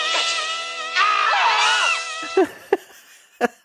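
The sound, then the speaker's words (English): Several voices scream together in surprise in a loud, high-pitched burst lasting about two seconds, then trail off into a few short, sharp yelps and gasps. “And then they make eye contact and everybody screams.”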